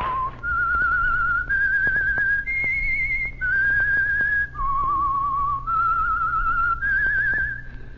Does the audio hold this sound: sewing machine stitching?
no